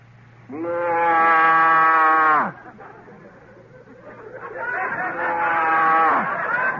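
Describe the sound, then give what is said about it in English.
A man's voice imitates a Holstein cow, giving two long, loud, drawn-out moos with a short pause between them, the second wavering slightly and fading out at the end. “Give us the cow. Okay. One Holstein”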